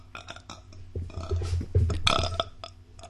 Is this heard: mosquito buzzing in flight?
no